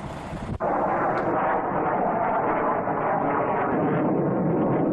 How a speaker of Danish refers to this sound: Det brøl, vi kan høre over os her, det er fighter jets, der flyver ind over Gaza nu.